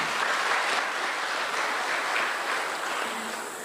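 A crowd claps steadily on Choti Diwali for overseas members who sent their love, a dense wash of many hands applauding at an even level that eases off slightly toward the end, with no voices over it.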